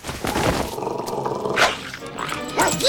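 A dog growls and barks, low rumbling snarls broken by a few sharp yips and barks, loud and continuous for the whole few seconds.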